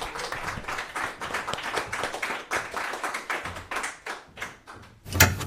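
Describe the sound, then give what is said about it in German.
Audience applause: a dense patter of many hands clapping steadily, with one sharper, louder clap standing out near the end. No voices. “Bitte bleiben Sie da bis zum Schluss. Applaus.”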